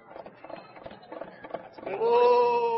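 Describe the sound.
A man imitates a horse with his mouth, pretending to ride in on his horse for a cattle call song: a quick run of clicking hoofbeats, then a loud, wavering, high-pitched whinny that comes out sounding more like a bleating sheep.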